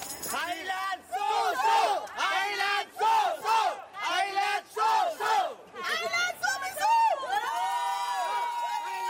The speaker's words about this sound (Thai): รวมทั้งให้คำชมเชยกองเชียร์ไทยที่สามารถส่งเสียงเชียร์ดังไม่หยุดตลอด90นาทีถือเป็นสีสันโดดเด่นในการแข่งขันฟุตบอลหญิงชิงแชมป์โลกที่ประเทศแคนาดาในครั้งนี้นะคะ